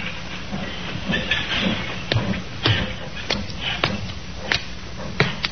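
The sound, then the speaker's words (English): Railway cars rumble and clank through the railroad yard at Almouth, in the coal district around Newcastle, with a steady hiss of steam and sharp metallic knocks recurring irregularly; no voices. “A puzzle which began in the railroad yard at Almouth in the coal district around Newcastle.”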